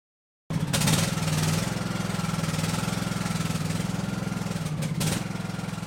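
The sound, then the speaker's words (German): A new ride-on lawn mower, with a caretaker sitting on it, starts up and runs steadily, a loud, throbbing low rumble with a regular chugging pulse and no voices. “sitzt stolz auf einem neuen Rasenmäher.”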